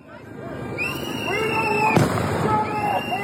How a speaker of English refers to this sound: Started throwing what seemed like flash grenades. There were loud bangs and we ran away.